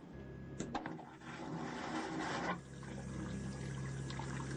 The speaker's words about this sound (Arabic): ولا يتم التخلص من مياه الصرف في الحي السكني الجديد عبر المجاري الطبيعية، بل عبر نظام التفريغ الهوائي الموفر للماء أيضا. تولد مضخة تفريغ هوائي في هذه الحاوية ضغطا عكسيا دائما، ومن خلال الضغط على زر يتم شفط مياه الصرف في دورات المياه.